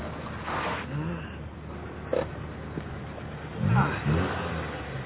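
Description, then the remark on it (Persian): A car engine hums steadily with a low rumble, briefly swelling as the car slows and pulls over, while faint, indistinct voices murmur underneath. “آره خوبه، از ماشین رو نگه دارم.”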